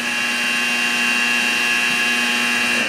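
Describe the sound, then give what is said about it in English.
A missile engine ignites and the missile lifts off from its silo, a steady, loud roar, a dense rushing blast with a high, piercing whine layered over it, holding constant without a break for the whole clip. “Engine ignition, and we have liftoff. Missile has left the silo.”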